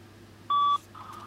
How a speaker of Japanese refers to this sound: ただいま電話に出ることができません。ピーという発信音の後にお名前、ご用件をお話しください。